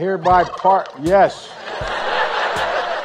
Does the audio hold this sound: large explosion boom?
no